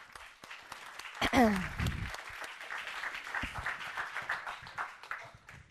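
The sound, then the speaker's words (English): An audience breaks into steady applause for a volunteer coming up, many hands clapping in a dense, sustained patter, with a brief voiced exclamation or whoop rising above it early on. “Round of applause.”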